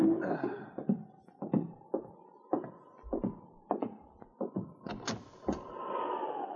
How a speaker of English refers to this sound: But one night, as he sat alone in his cabin on Hunker Creek, he heard an ominous knocking at the door. And somehow he knew, even before he answered the knock, that the past had caught up with him.